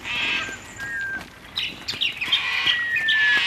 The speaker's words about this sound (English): The birds always, you know, get pretty rowdy once the first light comes through.